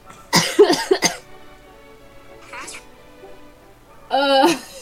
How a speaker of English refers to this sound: Don't make me laugh. I will start in a coughing fit.